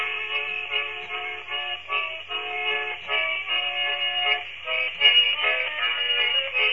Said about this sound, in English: Do what? What was that? Oh, a little polka music. What was that for? I like to start the show off different each week. Oh, okay, so this week's polka music,